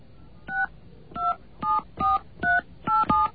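touch-tone telephone dialing

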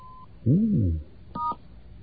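telephone keypad DTMF tones

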